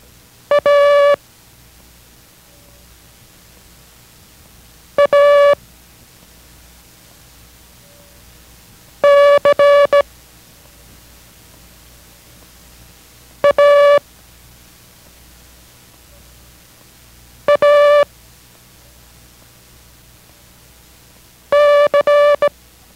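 Six short bursts of steady, mid-pitched Morse code practice tone, each a character from the group A, R, D and C (Abel, Roger, Dog, Charlie) sent quickly, spaced several seconds apart over a faint hiss, with no talking.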